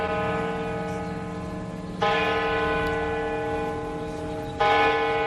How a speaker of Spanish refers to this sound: Las campanas doblan y avisan de que alguien del pueblo acaba de fallecer. Unas campanas que han sonado mucho, demasiado, en un pequeño pueblo de Ávila, en Vega de Santa María.